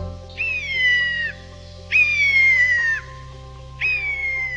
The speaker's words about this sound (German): Haben Sie ihn erkannt? Es ist ein Kiebitz, der oft als litauischer Papagei bezeichnet wird. Er kann die Geräusche anderer Vögel, Tiere und der Umwelt nachahmen.